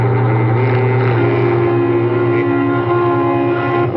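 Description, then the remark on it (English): A large truck carrying sheep drives at moderate speed along Highway 28 into Bancroft, Texas, in morning sun and blazing heat. Its engine is a loud, continuous low rumble with a sustained hum and no voices, holding an even pace throughout. “A large truck carrying sheep is traveling at a moderate speed along Highway 28, leading into Bancroft, Texas.”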